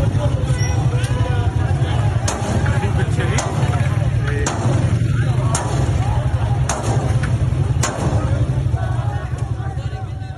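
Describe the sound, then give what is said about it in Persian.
At a street protest, a loud, dense crowd of demonstrators shouts and clamors continuously while security forces fire on them, sharp cracks of gunfire ringing out at irregular intervals, roughly eight shots, over a steady rumble of street noise. “در ویدیوهای منتشر شده دیده می شود که نیروهای امنیتی با خشونت و تیراندازی با تظاهر کنندگان برخورد می کنند.”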